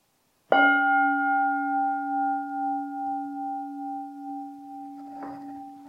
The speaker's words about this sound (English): I'll first ring the gong to signal the end of the little talk and the start of the meditation, and then I'll guide you through it.